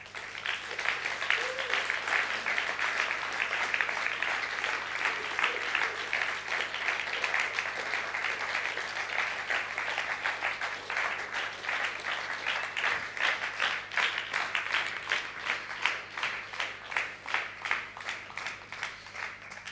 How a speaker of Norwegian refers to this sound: Og nå må dere gi panelet vårt en skikkelig, skikkelig god applaus.